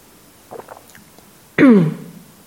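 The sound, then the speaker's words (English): During a Buddhist talk, the speaker takes a little sip: a few faint, soft slurping sounds, then a louder abrupt knock that rings out with a low, falling tone before fading, like a cup being set down. “I'm just going to have a little sip.”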